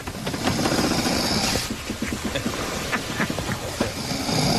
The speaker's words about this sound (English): That's a snore. Yeah. Well. There you go. That was a deep one. That's a good one, too.